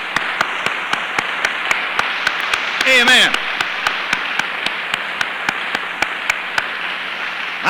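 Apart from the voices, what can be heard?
audience clapping hands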